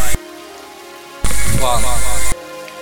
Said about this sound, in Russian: Любимая, я сижу здесь под дождем и жду тебя.